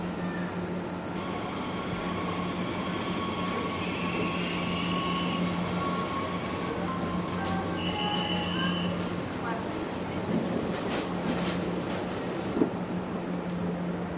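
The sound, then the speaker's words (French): Film sound effects of a train: a constant, heavy rumble with a low droning hum, crossed by brief high screeching whines and a few sharp clanks, evoking monsters with a growling, creature-like feel. “C'est pas les bruits des trains qu'on entend, c'est des bruits qui font référence à des monstres, qui font référence à des choses où le climat peut jouer, enfin, il y a quelque chose d'assez étrange là-dessus.”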